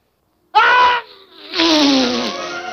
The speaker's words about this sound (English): His sneeze stirs up gusting winds. It blows the other dwarfs across the room.